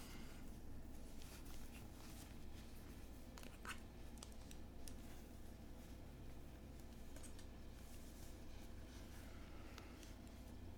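Quiet rustling and scraping as a face mask is pulled on over headphones, with irregular fabric and plastic handling noises over a steady low background hum.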